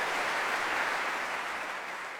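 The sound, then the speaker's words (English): Steady, dense applause from the audience of a lunchtime concert at Wigmore Hall in London after a Brahms song sung as an encore: many hands clapping at once, blending into a continuous crackling wash that holds an even level throughout, with no voices. “But while the applause continues now this lunchtime, it's on to Broadcasting House.”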